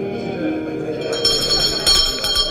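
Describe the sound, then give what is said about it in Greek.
A presiding judge's small hand bell rings insistently during a court hearing, with bright metallic clangs growing sharper and more frequent toward the end, fairly loud over a murmur of voices. “Τις μικρές του τις κακίες δεν μπορεί να κάνει πέρα, και επειδή τις ευκαιρίες βρίσκει πάντοτε μιλιούνι, πασχαλιάτικα χτυπάει του Προέδρου το κουδούνι.”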